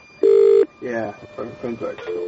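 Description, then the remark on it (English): A single loud, steady electronic phone tone sounds briefly as a prank phone call is placed on Madhouse Radio, then stops abruptly as a voice begins talking. “So we're going to give that a call here.”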